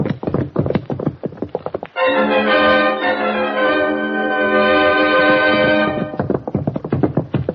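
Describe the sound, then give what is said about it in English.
A horse gallops away with fast, rhythmic hoofbeats, broken in the middle by a long, loud sustained tone before the pounding hooves return. There's no talking. “Did you get a look at his horse?”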